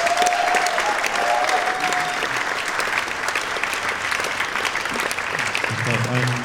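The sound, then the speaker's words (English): A crowd applauds the young people steadily, a dense, sustained wash of clapping at strong volume throughout, with a brief tonal whistle or voice at the start and low murmurs near the end. “Can you all just give the young people a round of applause, please?”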